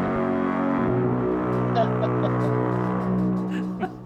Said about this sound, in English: Okay, here's a foghorn for you.